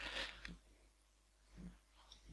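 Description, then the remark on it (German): Soft paper rustling as a page is turned while someone reads aloud, with a crisp burst at the start and a couple of quieter shuffles after a brief pause. “Hab ich vergessen weiter zu blättern.”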